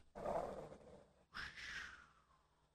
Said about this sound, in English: Whoa! I think there's a wolf in here. That's terrifying. What is that? Back, Leo, down, boy, down. That is my radar watchdog intrusion alarm. Now, wow. It's no longer available from Sharper Image